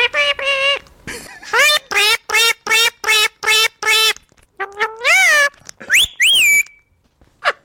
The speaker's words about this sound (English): I hate talking birds, but a listener sent this in and said, this is Mike. This is you as a bird.